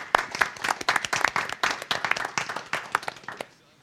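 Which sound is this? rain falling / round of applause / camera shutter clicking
round of applause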